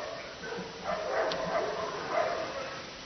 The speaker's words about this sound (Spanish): El perro la mordió. Espéreme un segundo. Un perro. Pues mire, no, Rottweiler. El Rottweiler.